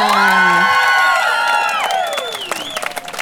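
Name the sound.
crowd applause and cheering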